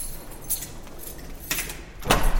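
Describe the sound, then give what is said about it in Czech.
Lift doors slide open on the 5th floor with a few short, bright clattering bursts as people shuffle out, moderately loud, with no talking. The lift goes to the new operations centre of the Prague emergency medical service. “Ano, jedeme ve výtahu.”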